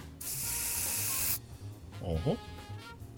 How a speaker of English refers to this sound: a strange spray bottle that he just got off of a postman. And while the spider is stunned, he's going to spray it.